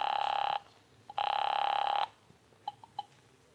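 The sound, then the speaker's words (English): A telephone ringback tone heard through the line: two long electronic rings with a pause between, followed by a few short clicks as the call connects, thin and filtered as if over the receiver. “So I found a phone and called”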